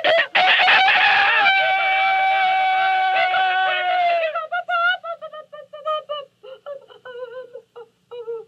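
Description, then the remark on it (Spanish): A rooster lets out one long, loud crow, then a hen takes over with a rapid run of choppy clucks and cackles, with no talking. “¡Hija de tu abuela, que fue la gallina más desvergonzada que se oyó cacarear en esta granja!”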